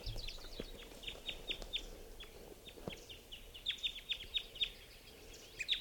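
High, sharp chirps from wild birds hitting and being caught in mist nets come in two quick bursts of repeated calls, with a scatter of soft clicks and rustling underneath and a low steady background hum. No one speaks.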